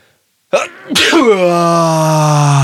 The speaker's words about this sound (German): boah, ich glaube, ich muss niesen.